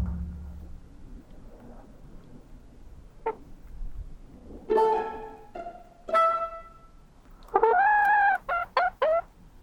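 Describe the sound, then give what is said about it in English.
Three hens cluck and squawk, first a few drawn-out calls, then a loud burst of quick repeated clucks near the end, with no one talking over them. “We have three hens, but one night mommy couldn't let to close the hens in.”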